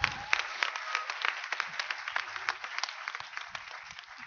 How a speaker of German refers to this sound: Und Applaus erstmal dafür.